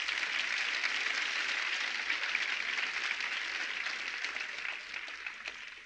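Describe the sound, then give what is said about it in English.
An audience applauds, giving the Lord a hand clap, in a dense, steady wash of clapping that holds for several seconds and eases off slightly toward the end, with no voices over it. “Well, the rest of you might as well clap, because I'm going to do it later anyway.”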